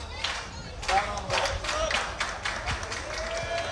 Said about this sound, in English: Couple claps there from the Lumen dugout trying to rally behind their first baseman.